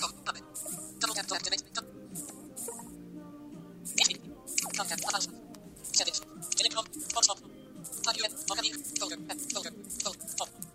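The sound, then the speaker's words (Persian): Wet sips and swallows of drinking water, irregular and repeated over several seconds, with squishy mouth sounds and a faint voice mixed in. “آب ببخشید من خورده”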